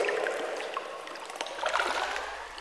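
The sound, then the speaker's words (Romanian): Water sloshes and splashes continuously with a bubbling, trickling texture, steady at moderate loudness, with no one speaking. “Am căzut într-o apă sărată. Apa-mi ajunge până la bărbie.”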